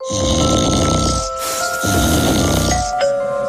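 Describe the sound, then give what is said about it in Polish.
A man snores: two loud, rasping snores, each a long rattling inhale separated by a brief pause, prominent with no talking. “Dochodzą mnie słuchy, że pani mąż chrapie jak niedźwiedź.”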